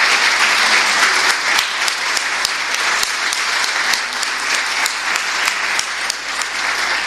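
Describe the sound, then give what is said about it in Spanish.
Sustained audience applause for a group of young people at a celebration, the last event of the day, a dense wash of many hands clapping steadily at an even loudness for several seconds, with a few sharper individual claps standing out and no voices. “Vamos a darle un fuerte aplauso a todos estos chicos.”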